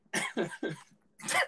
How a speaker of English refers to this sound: That was what I would classify as a meaty burp. Like, you could have just, that was a 12 ounce sirloin burp.